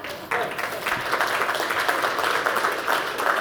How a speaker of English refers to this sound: Over 500,000 manufacturing jobs we've created. Yeah, clap on that, please, because I'm proud of that.